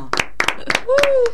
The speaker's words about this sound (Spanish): Invierno, temazo, un aplauso.